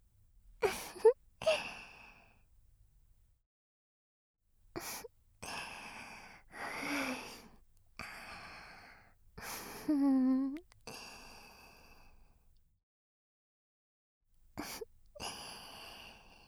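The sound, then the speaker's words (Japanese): Heavy, excited breathing in irregular bursts: sharp gasps and long breathy sighs separated by short silences, with a drawn-out voiced moan in the middle. No speech. “興奮した息遣い聞いてると”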